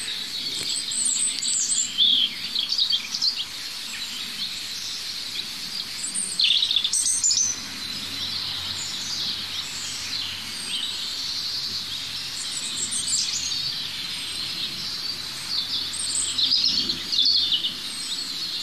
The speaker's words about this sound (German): wie gesagt, es sind immer noch mindestens 3 Individuen, die singen, ganz dicht aneinander, 10, 15 Meter. Und während ich mich fortbewege und zu dem Äußersten in Laufrichtung Rotkehlchen laufe, höre ich schon dahinter wieder das Nächste.